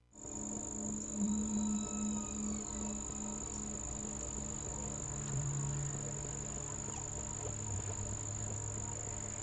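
Henry the Hudson Whale: low, drawn-out whale moans rise and fall continuously, layered with faint squeaky calls and a steady high-pitched whine in the background, no voices present.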